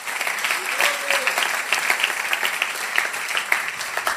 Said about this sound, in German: Ja, und hey, vielleicht können wir einfach mal dem Dream Team an allen Standorten einen riesen Applaus geben, auch in Ansbach, in Erlangen.